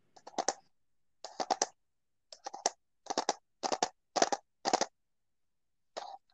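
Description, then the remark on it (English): Fingernails click against a plastic pen cup in quick bursts of two or three sharp, bright taps, repeated in about eight clusters separated by short pauses, with no talking. “Is that your nails clicking on a something plastic? Yes, on my cup full of pens.”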